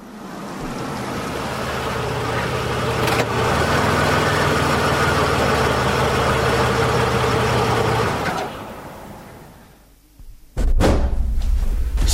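A car engine runs with a steady idling hum and a brief thump partway through, then quiets before a sharp door slam and a renewed low rumble.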